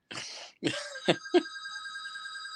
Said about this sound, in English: Is that a landline? It is.